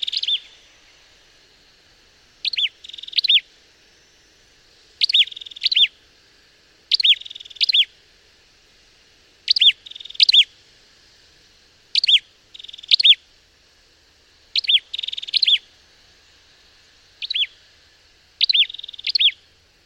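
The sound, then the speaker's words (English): Ashy tailorbird calls from Malaysia: sharp, high chirps in quick doubled bursts, repeating every couple of seconds, clear against a quiet background with no voices. “Ashy Taylor birds from Malaysia.”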